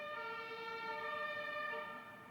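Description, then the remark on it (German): A fire engine siren blares as it passes: a loud, sustained, harmonically rich wail whose pitch sags slightly before the sound drops away at the end. No voices. “Jetzt fährt hier die Feuerwehr.”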